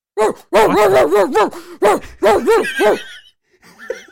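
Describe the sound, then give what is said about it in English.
A person imitates a dog, letting out a loud run of yappy, howling barks in quick succession, then pausing before a few faint, high whimpering sounds. “do you mind barking for us today?”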